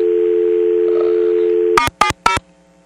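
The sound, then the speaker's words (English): A steady, loud telephone dial tone hums for almost two seconds, then cuts off as three quick touch-tone dialing beeps follow in an even rhythm. “Okay, back to dial tone.”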